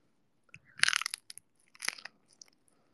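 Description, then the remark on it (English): A crisp crunch of biting into food, two brittle bursts of crackling about a second apart, with no talking. “Okay, probably you heard that crunch.”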